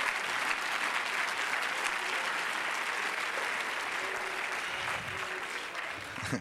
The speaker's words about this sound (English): Well, praise God. Let's clap our hands again and bless His name.